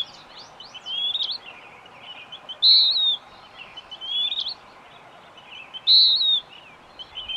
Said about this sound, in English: this distinct song changed mid-continent, just across the Great Plains. The plaintive song of the east gives way to the harsher strains of the western wood peewee, although the two birds are practically indistinguishable in appearance.